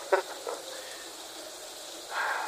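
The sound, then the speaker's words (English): Rain patters on a thin metal roof as a steady, fairly quiet hiss, with a few sharper taps early on and a brighter swell of patter toward the end. No one speaks. “Man, what's that rain? Metal on this roof is getting pretty thin.”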